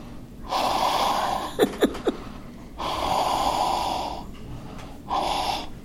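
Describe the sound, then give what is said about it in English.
Loud heavy breathing in long drawn-out breaths, with a few sharp snorting catches between them, no talking; a man breathing into a microphone as a sound effect for a scene of following people. “What do they always have in those scenes where they're following people? Heavy breathing.”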